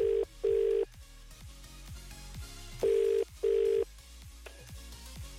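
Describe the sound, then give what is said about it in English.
An outgoing call-back to a competition entrant rings out with the British double-ring tone, two pairs of short, steady mid-pitched buzzes about three seconds apart, over a quiet rhythmic background. “We call it £1,000 Friday, and we're ready to make the call back.”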